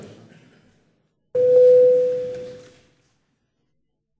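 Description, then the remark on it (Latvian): A single steady electronic tone sounds for about a second and a half, starting abruptly and fading gradually, a parliament's voting bell rung at the chair's request before a vote on a bill in first reading, with a quiet murmur of room noise before it. “Lūdzu zvanu.”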